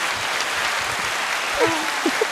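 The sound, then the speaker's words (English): A dense round of applause fills the whole stretch, steady clapping from a crowd with a few faint voices or cheers rising briefly near the end. “And the round of applause.”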